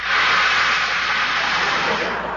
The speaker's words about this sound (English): Now listen, Virgil. Just then, it started to rain.